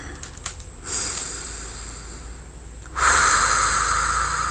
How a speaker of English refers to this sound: Don't gasp, breathe, keep breathing.